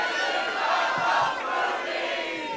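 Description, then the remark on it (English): A loud, sustained scream rises from an audience member at a live taping of Doug Loves Movies, a high shrill yell carried over a dense roar of cheering and shouting crowd noise for a few seconds. “Wait, who was it that just screamed?”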